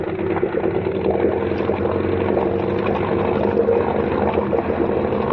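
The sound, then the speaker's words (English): A boat engine drones steadily at high revs, around 3,000, while the boat's wake water churns and rushes loudly behind it, a constant roar with no voices. “We're throwing a wake like a destroyer.”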